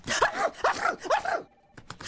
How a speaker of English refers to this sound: Why don't you just try not to sneeze?